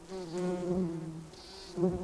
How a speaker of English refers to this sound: On a summer day, a field of fireweed is buzzing with a swarm of bumblebees.